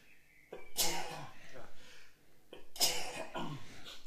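throat clearing

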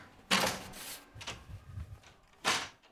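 door being opened

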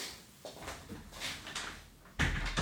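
door being closed

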